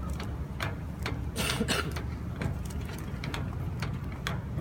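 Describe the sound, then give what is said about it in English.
A hydraulic pump (jack) building pressure to lift a train chugs steadily, a low mechanical drone with repeated clicks and short bursts of hiss over a constant rumbling hum, with no voices. “So they're just preparing for the lift here. It's a hydraulic pump. It takes some time.”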